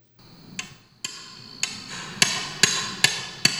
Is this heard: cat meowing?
no